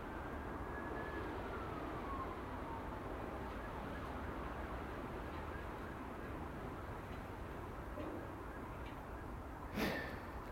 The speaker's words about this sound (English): The sound of an ambulance.